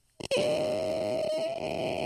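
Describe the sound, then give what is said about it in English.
After a short breathy burst, a voice imitates sinuses refilling after blowing the nose, with one long, steady, whiny hum held at a fairly high pitch for nearly two seconds, fairly loud and alone. “Yeah, it's the sound of them slowly filling back up.”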